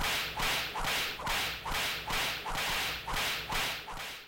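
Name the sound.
whip cracking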